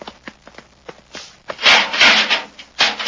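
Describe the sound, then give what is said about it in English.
The wooden door of a study opens: a few soft clicks and knocks at first, then a loud, rough scraping creak in two sustained bursts, followed by one more short grinding rub. “Open the door”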